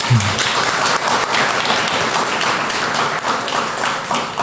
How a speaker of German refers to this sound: Applaus für Avara.